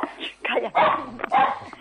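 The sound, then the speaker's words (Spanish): A dog barks several times in quick succession, loud, each bark sharp and slightly strained, with short gaps between them; the dog is frightened. “Calla, escuche, mire, el perro se asusta.”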